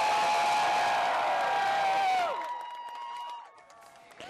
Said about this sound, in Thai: คนจำนวนมากโห่ร้องยินดีที่ทำการของศาลสูงหรือ Supreme Court ของสหรัฐในกรุงวอชิงตันเมื่อวันศุกร์หลังจากคณะผู้พิพากษาลงคะแนน5-4สนับสนุนสิทธิตามรัฐธรรมนูญให้คนรักเพศเดียวกันสามารถแต่งงานได้ทั่วสหรัฐ